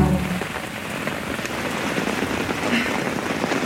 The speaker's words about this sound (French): Ah, je suis trempée, il pleut, mais à torrent, et le niveau de l'eau qui monte. J'ai consolidé les piquets là dehors, je suis gelée. Je suis au milieu d'une mare de dodo. C'est ça la saison des pluies en Ouganda.